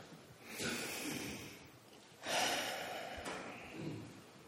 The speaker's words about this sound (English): This is the time in our service when we center ourselves and we breathe together. Breathing together, we can sense one another's loving presence.